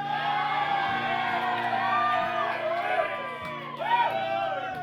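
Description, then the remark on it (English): A live audience cheers and whoops for about five seconds, many overlapping shouting voices holding a steady roar that swells briefly near the end, with a low constant hum underneath. “I don't even know what that cheer's for.”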